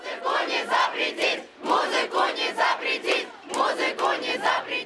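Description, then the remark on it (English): A crowd at a concert by a band, on their Russian tour, chants "You can't ban music" in unison. The loud rhythmic phrase is repeated three times with short pauses between, many voices shouting together with a dense, energetic texture. “"You can't ban music," the crowd chants at this concert by ….”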